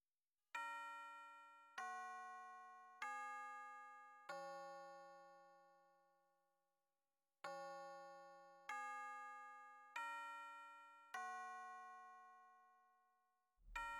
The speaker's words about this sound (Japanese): あら、チャイム鳴っちゃったわね。